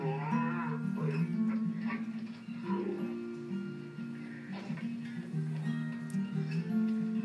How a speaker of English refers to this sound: This is very cute. This is a dairy cow.